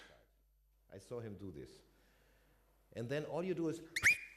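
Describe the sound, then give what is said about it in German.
A man talks in short bursts, then lets out a single brief, sharp whistle, fairly loud, right at the end, to hail a taxi. “Ich wisst ein Taxi und du bist in die eine Richtung, es kommt von der anderen Seite und du pfeifst und der Taxi-Driver, der Taxler, also der Droschkenfahrer, versteht dich, sieht, dass er will aber in die andere Richtung und er wird mich bezahlen.”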